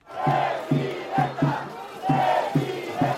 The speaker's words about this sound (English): As Claudia Sheinbaum arrives for a rally in a packed park in the colonial city of Orizaba, the crowd chants, Presidenta, Presidenta.